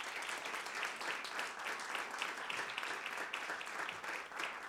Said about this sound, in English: Pour Julien Serrier, tonnerre d'applaudissements également.